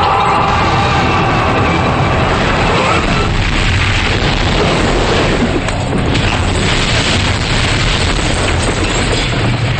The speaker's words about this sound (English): jumps out after them as an enormous explosion sends fireballs shooting out the windows.